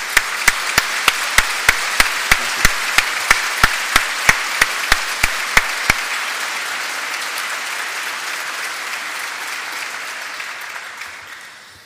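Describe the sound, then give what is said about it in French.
An audience applauds in a dense, steady wash of clapping, with sharp, evenly spaced claps punching through in a regular beat during the first half before the applause fades out. “Et je pense qu'on peut aussi les applaudir.”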